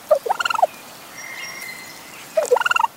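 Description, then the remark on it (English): A wild turkey gobbles twice, each call a rapid, rattling burst of throaty notes, separated by a quieter pause with a faint high whistle in the background. No talking. “We know the whole turkey like gobble noise, but then once they start making these chirps and weird sort of dinosaur-like noises”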